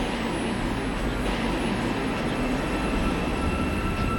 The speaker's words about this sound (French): Alors on arrive à la station de métro Taksim